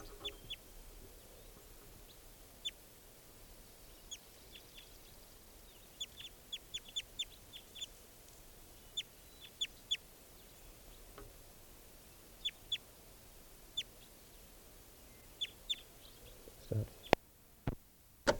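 male bird calling

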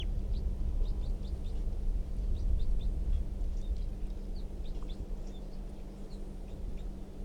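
wild bird calling

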